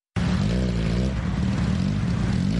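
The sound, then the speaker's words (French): Loud, steady roar of motorcycle engines ridden by women of the Piki Dada group through the crowded streets of Nairobi, a dense low rumble with shifting engine tones that holds throughout without any voices. “Écoutons le ronflement des deux roues dans un reportage de Radia Adam, relaté par Arzuma Compaoré.”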